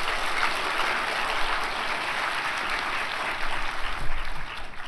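A large church audience claps steadily for several seconds to welcome a preacher up to preach, a dense, even wash of applause that swells slightly near the end before easing off, with no voices standing out.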